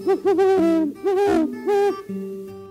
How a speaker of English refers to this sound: You can find great horned owls all over the state.